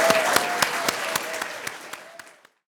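An audience applauds, many hands clapping in a dense, steady patter that tapers off and stops after about two and a half seconds, with no voices over it.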